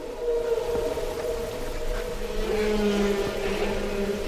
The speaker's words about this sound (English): And what we just heard from the … album was song.